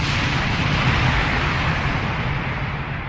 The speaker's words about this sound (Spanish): Al salir de la barraca, Kittner fue fusilado por uno de los prisioneros. Después del disparo estalló la primera granada, señal para el inicio de la rebelión.